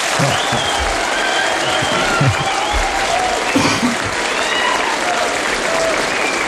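Steady, dense applause from an audience, many hands clapping at once in a continuous loud wash that holds level throughout, with a few brief voice-like calls mixed into the crowd noise.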